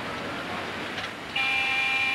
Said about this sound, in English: Now, Andy's car pulls up to a large brick apartment building.